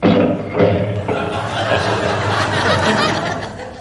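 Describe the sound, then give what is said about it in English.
A lion roars, a loud, rough, low growl that holds steady for several seconds with a gravelly, rumbling texture and no pause. “In order to give us a basis of comparison, here is a real lion.”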